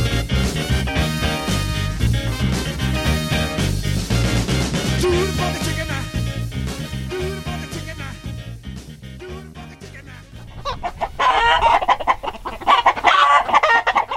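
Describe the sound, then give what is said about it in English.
An upbeat music track plays for about ten seconds, then fades as a loud burst of chickens clucking and crowing behind the speaker takes over for the final few seconds. “we're talking this hour about chickens, descendant of the dinosaur, a cultural staple in sport, religion, and more, and trying to break into the conversation behind me.”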